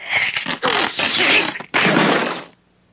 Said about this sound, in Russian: Винни-Пух страшно испугался, и от испуга у него жутко зачесалось в носу, отчего он широко открыл рот и громко чихнул.